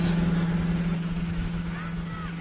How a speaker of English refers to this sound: And I'm just getting out of the way while a scooter comes by.